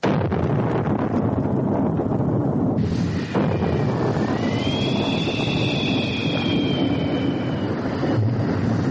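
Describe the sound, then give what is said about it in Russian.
A violent storm at sea: a loud, unbroken roar of wind and rushing water, with a shrill howling whistle that rises and wavers through the middle. No one speaks. “Ну вот, значит, ехали наши братишки месяц, ехали два, и вдруг однажды началась страшная буря.”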